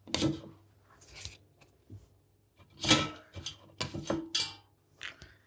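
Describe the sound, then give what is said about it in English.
A metal fork clinks and scrapes against a pan while browned, cooked sausages are lifted out to be moved to a chopping board, several irregular clatters and taps with short pauses between them, no one speaking. “Grab a fork from your drawer, and then you can grab the sausages.”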